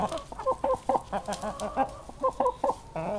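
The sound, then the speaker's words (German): Several chickens cluck in a series of short, soft, irregular bursts while pecking dried mealworms from a hand, with a low background murmur and no clear talking. “Da picken die Hühner der Patientin die getrockneten Mehlwürmer aus der Hand.”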